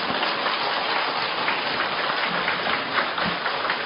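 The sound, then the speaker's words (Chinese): An audience applauds steadily, a dense wash of many hands clapping at once, loud and even throughout with no voices over it. “掌声比刚才多很多了。”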